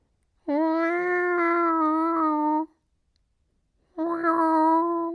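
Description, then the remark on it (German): Two drawn-out, whimpering cries like a small child's, the first long and steady, the second shorter after a brief pause, with no talking. “Ja, es wimmert wie ein kleines Kind.”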